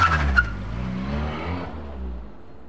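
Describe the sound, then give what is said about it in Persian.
A car pulls away with a brief screech of tires at the start, followed by the steady low drone of the engine as it drives off toward Adolf's house. No one speaks. “سوار ماشینم شدم و به سمت خونه ی آدولف به راه افتادم.”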